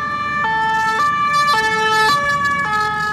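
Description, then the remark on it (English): A loud two-tone emergency siren alternates between high and low pitches about every half second over a steady rumble of city traffic, filling the streets near the Opera Garnier in Paris after a knife attack that killed one person and injured four. “Sirens filled the streets near Paris's famed Opera Garnier after a knife-wielding suspect killed one person and injured four others.”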